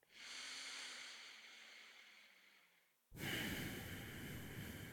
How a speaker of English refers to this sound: listen to my breathing.